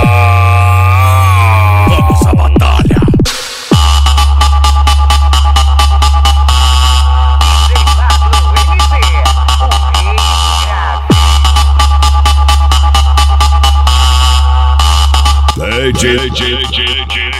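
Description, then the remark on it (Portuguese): Deep, booming bass pulses blast from loudspeakers in a loud, continuous electronic track, with rapid rhythmic hits and sweeping synth tones layered on top; no one speaks. “É grave atrás de grave, é grave atrás de grave.”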